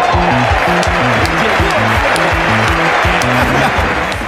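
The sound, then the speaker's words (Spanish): A crowd applauds steadily for about four seconds, a dense, even clatter of clapping with voices calling out beneath it. “Se merece un aplauso.”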